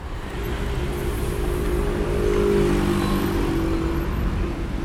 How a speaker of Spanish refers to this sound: 81 decibeles esa moto.